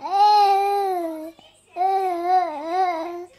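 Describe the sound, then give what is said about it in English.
A toddler babbles in two drawn-out, sing-song bursts with a short pause between, the high voice clear, wavering up and down in pitch. “Okay, maybe that toddler is better equipped to talk about the environment than Australians are about racism.”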